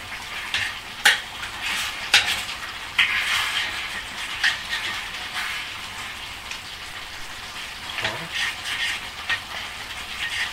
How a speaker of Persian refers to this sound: خب پس همینطور من به هم زدن ادامه میدم و تاب میکنم تا آب برنج کم بشه، بعد صداشو به شما نشون میدم که چه شکلی میشه. خب ببینید آب برنجم کم کم داره کم میشه و من همش میزنم که ته نگیره.